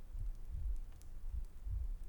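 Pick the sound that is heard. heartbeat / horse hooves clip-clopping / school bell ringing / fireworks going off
heartbeat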